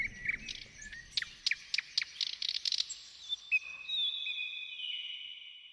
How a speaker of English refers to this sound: I thought I heard some nightingale. Yeah, what an illusion. I must have been dreaming. Dreaming again. A nightingale out here. A jeweled nightingale?